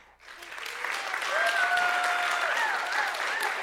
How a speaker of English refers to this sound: and then we'll give him a round of applause for graduating from high school this year.